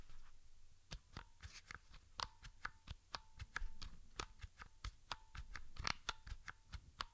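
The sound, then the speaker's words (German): Several keyboard keys are pressed at the same time, always at least two keys at once, again and again, giving a steady run of crisp clicks at fairly even intervals, with no talking. “Ich versuche einfach mal einen möglichst gleichen Abstand einzuhalten und drücke immer mindestens zwei Tasten gleichzeitig”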